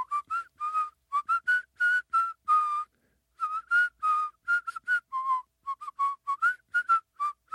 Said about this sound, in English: That's inhaling whistling.